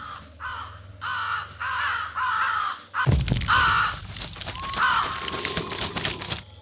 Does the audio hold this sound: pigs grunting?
no